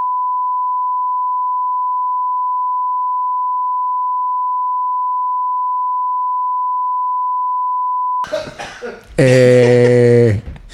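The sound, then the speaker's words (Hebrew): A steady, loud censor beep tone holds for about eight seconds, then cuts off abruptly into a brief cough-like burst and a strained, voiced vocal sound. “תעשה על זה ביפ.”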